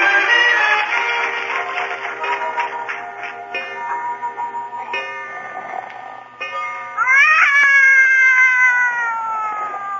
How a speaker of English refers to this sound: Did you wake me up so I could listen to that cat concert? No, I thought you'd get rid of him.